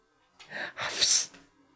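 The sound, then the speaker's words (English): A dog gives one long, breathy yawn while stretching, rising into an airy, strained exhale before trailing off, with nothing else around it. “Oh, that's a big yawn and a big stretch.”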